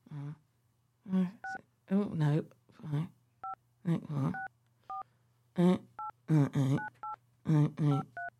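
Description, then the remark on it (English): A string of short, two-toned keypad beeps as a burner phone is dialed, about a dozen, in an uneven rhythm, interleaved with bursts of voice over a steady low hum. “See if the pod phone works.”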